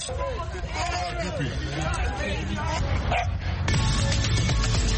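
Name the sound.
dogs barking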